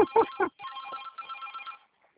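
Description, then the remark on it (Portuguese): A telephone rings with a tonal, warbling electronic trill lasting just over a second, right after a short burst of voice, then it cuts off into quiet. “Vou no telefone aqui, tá?”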